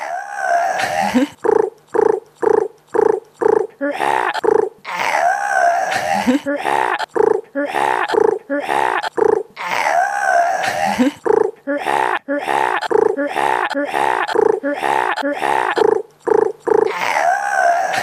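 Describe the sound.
Two people's voices imitate the cries of various animals, edited into a short montage: a rapid string of short bursts of growls, yelps, purring rasps and drawn-out howling calls, loud and nearly continuous, with pitch shifting between sounds.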